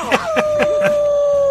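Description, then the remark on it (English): A person imitates a dog's howl with a long, sustained, slightly falling tone, broken by four quick rhythmic vocal pulses near the start, loud. “you got some people calling in and want a howl, baby. I think we need one more. Hey, I can howl!”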